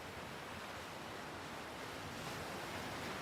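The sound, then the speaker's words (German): Ocean waves rush in a steady, continuous wash of surf, soft and even throughout with no distinct breaks or crashes, and no voices present. “Du hörst das vertraute Rauschen des Meeres”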